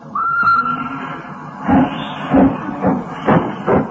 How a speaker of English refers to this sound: Hissing and snorting and growling and grumbling. Out of the station, the train comes a rumbling, puffing out smoke and white steam in the dark,